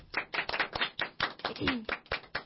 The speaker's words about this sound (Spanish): Señoras y señores, volvimos. ¡Un aplauso!